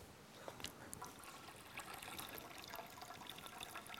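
A child pours water steadily into a baptismal font before a baptism, a continuous splashing trickle with small bright splashes, moderately loud, with no one speaking.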